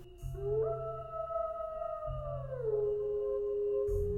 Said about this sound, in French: La lune du loup, en janvier, ainsi nommée parce que c'est le temps où les meutes de loups affamés hurlent à la nuit dans la neige.